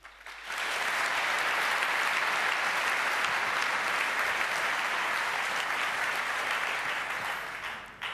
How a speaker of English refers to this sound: So, and now I would like you to give a very warm and welcoming applause to our very nice speaker,